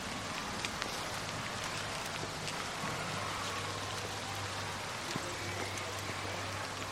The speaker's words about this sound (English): I feel like it's been raining, like, constantly.